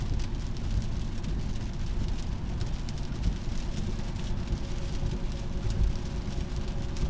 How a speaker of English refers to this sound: God, this big old fat rain. Shout out to Bubba Gump, RIP. This sideways rain. All the rain Bubba Gump talked about in Forrest Gump, it's happening right now in Tennessee.